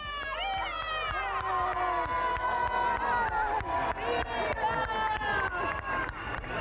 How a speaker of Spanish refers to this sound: Bueno, aplausos. Por detrás creo que también había algunos pitos.